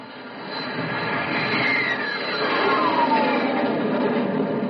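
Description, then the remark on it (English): A jet-powered land speed car roars past on a clear track, faster than the speed of sound, its loud, steady engine rumble swelling, with a whining tone that drops in pitch as it passes. No voices are heard. “You've left the speed of sound behind and the track's clear ahead.”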